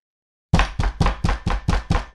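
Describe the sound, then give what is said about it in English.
Heavy, furious banging on a door: seven loud, booming blows in a quick, steady rhythm, each with a deep thud, with no voices. “And then, sharp, heavy, furious, someone bangs on the door.”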